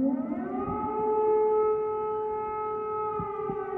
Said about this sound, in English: I'm listening to the sirens and distant explosions all day, some not that distant.